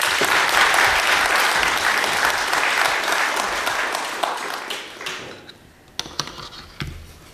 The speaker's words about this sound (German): Dann noch mal einen Applaus.